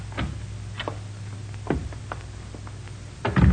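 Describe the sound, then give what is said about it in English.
A door opens and shuts: a few sharp latch clicks and rattles over a low hum, ending in a heavier thud as it closes. No one speaks. “We go out this door here.”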